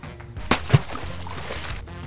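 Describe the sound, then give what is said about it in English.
A bone that falls from a dog's mouth plops into water with a sharp splash, followed quickly by a second slap of water, then a brief settling wash. Fairly loud, with no voices. “Splash!”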